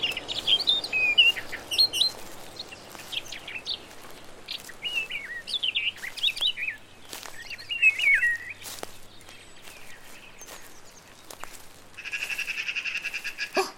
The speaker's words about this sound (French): Oh, il y a du vent aujourd'hui. Tu entends comme le vent souffle? J'entends aussi les oiseaux qui gazouillent.